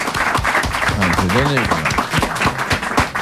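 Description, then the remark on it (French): An audience applauds steadily for about three seconds to vote for a contestant, a dense, even patter of many hands clapping, with a voice calling out over the noise partway through. “Applaudis, maître, allez, on va faire ça comme ça.”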